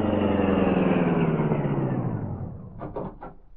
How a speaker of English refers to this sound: After Britt Reed phoned the Daily Sentinel, he returned to the Black Beauty. A high-powered car racing at top speed easily outdistanced Maroney and the dash to the home of Sturgis, the criminal lawyer.